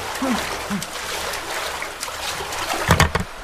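A strong river current flows steadily and fairly loudly, with churning splashes and a few brief, indistinct voice fragments rising over the current.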